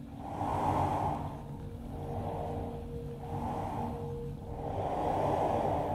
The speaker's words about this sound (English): it's the sound of a drain on the bank of the Thames. And the Thames is super tidal, so as it rushes in and out, in this particular instance, this drain sounded so strongly like it was breathing.